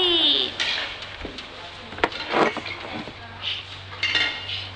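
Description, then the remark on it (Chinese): A toy spoon and small dishes clink and clatter in a series of light, irregular taps and scrapes, with a sharper knock midway and faint voices murmuring in the background, as a child plays at feeding 'little sister' with the toy spoon after her bath. “呢只咩嚟噶？ 羹。”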